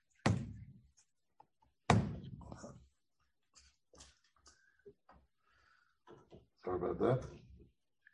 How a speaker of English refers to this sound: Let's knock the plug out here. Ay, ay, ay. These are the worst plugs here.